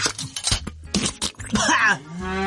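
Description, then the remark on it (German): A cow moos in a drawn-out, throaty way, broken up by gurgling, hoarse noises; the cow has a frog stuck in its throat. The sound is fairly loud. “Hier, Ihre Kuh hatte einen Frosch im Hals.”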